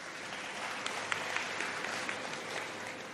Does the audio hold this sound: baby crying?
no